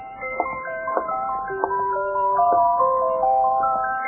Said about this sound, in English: And there it is. What you heard, the music box, sitting on the counter next to the open door, playing.